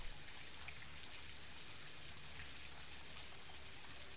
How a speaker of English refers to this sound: The sound of the falls echoing through the rainforest.